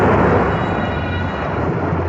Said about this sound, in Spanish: Solo se escucha el rumor de las olas que mueren en la playa. El golpe del agua contra los tablones del puente.